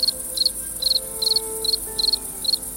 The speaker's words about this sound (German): Na, wer bin ich? Genau, es sind die Grillen.